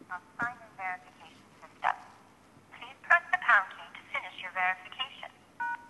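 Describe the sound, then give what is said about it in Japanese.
A mobile phone rings with an incoming Azure multi-factor authentication call, its melodic ringtone repeating in short bursts at moderate volume, mixed with a voice talking. “これは今私ここに携帯電話を持っているんですが、こちらにですね、もうちょっとすると Azure の方から電話がかかってきます。”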